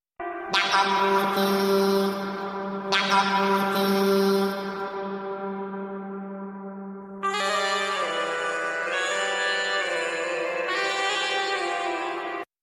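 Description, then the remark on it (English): A processed alarm tone drenched in reverb: two swelling, harmonically rich blasts that ring out and decay, followed by a brighter, sustained electronic tone that shifts pitch partway through. No one speaks. “So we just ran all sorts of reverb and effects on these.”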